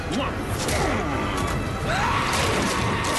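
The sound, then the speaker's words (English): A shark crunching as it eats people in a Las Vegas casino: loud, chaotic crunching and crashing noises run continuously for about three seconds, with muffled voices and rising cries mixed into the din. “I'm guessing this is where the sharks are coming in eating people. You can hear the crunching a little bit.”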